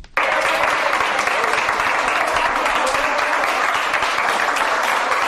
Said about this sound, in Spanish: Y este aplauso es para los de la UCI de Sonllàtzer.